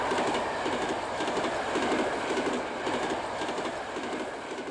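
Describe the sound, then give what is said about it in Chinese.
An electric tram rumbles steadily along its tracks as it leaves Oakland, with a constant dense roar and faint rhythmic clacking of wheels over rail joints throughout. “不久他们就坐上了电车，离开了奥克兰。”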